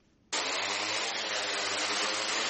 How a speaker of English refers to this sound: Drones like this are spraying a silicon solution across standing water, forming a thin layer that will eventually prevent mosquito eggs from hatching.